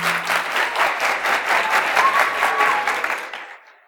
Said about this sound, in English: Slow clap. I thought I needed to do something before I get slow clap. That's not bad. Not bad.